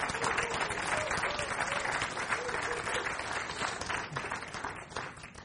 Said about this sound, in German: Und ihr könnt euren Pastoren einmal einen richtigen fetten Applaus geben.